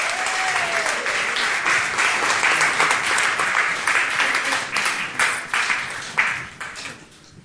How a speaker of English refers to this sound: Right, I'm going to let the actors sit down at that point. I think they all need a round of applause.